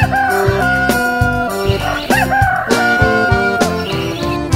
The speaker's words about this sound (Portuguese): E a você, sertanista, eu e o Galo Frederico cantamos assim.